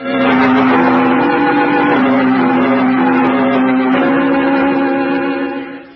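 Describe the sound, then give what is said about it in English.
A rented car's engine hums steadily at a constant, fairly loud level as the vehicle drives along, a continuous droning rumble with road noise that fades slightly at the very end. “I then drove out to the Viridian mansion”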